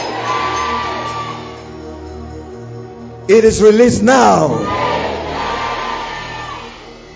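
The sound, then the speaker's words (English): A man speaks, then several loud, overlapping shouts and whoops of deliverance burst out from an audience in quick succession, intense for a moment before the talking carries on. “I heard the shouts concurrently, one after another.”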